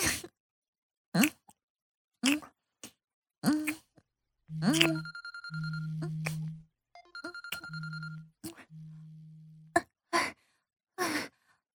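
A phone rings late at night with a steady electronic ringtone in two paired bursts, clear, surrounded by short breathy sighs and gasps from a person.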